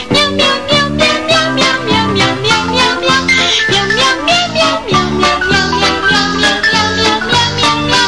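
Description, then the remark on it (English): Voices sing cat-like meows over and over to a bouncy, upbeat advertising jingle for Meow Mix cat food from Purina, with full instrumental backing, loud and continuous throughout, the singers imitating a cat's call in rhythm. “Meow Mix tastes so good, cats ask for it by name.”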